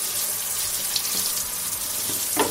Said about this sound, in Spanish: Imagínate, un día te metes en la ducha y el agua, pues no deja de salir fría.